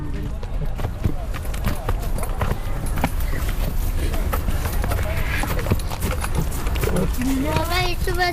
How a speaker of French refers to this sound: la panique le saisit rapidement quand le canasson se met à bouger brusquement